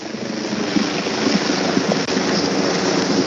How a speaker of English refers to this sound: Now there's a helicopter. The Texas DPS is actually hovering right above us here.